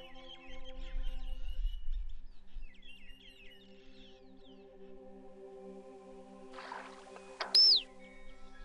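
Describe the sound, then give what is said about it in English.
White-winged chough (Corcorax melanoramphos) calls in Acton: faint scattered chirps early on, then a single loud, piercing whistle that slides downward near the end, all over a steady low droning hum. “Corcorax melanoramphos. White-winged chops. Cooperative birds living in Acton in families of 7 or 8.”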